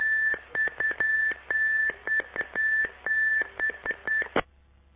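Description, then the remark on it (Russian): A series of steady electronic beeps in an irregular rhythm from a participant on a conference call line, over a narrow telephone-line hiss, like keypad tones, ending with a click; no one speaks. “Этот человек только пищать и умеет.”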